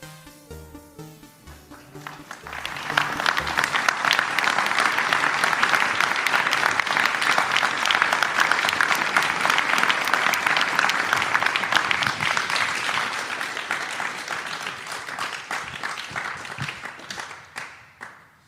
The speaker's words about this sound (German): Also in den anderen Städten war mehr Applaus. Ne? Ja, da war mehr Applaus, ja.